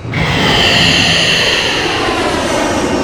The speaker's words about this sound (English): In the skies above Stone Canyon, two fighter jets head to intercept a large incoming UFO.